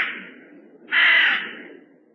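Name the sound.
crows cawing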